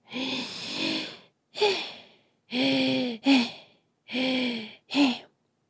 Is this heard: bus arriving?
no